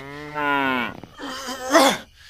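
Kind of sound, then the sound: animal, cow mooing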